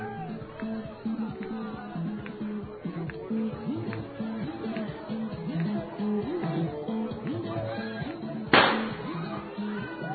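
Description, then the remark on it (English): A steady murmur of chatter from a large crowd gathered under a roof by a train station, then a single sharp, loud firework bang set off under the roof cracks out near the end and quickly fades back into the voices. “Of course, the fireworks are going off inside.”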